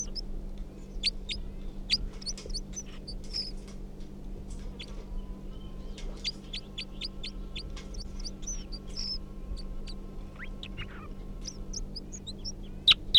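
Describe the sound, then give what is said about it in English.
Bird song from the bird numbered 305, near cages: repeated bursts of quick, high-pitched chirps and short trills, coming in phrases throughout, over a steady low hum, with no talking. “Song continuing to come, I think, from 305 here.”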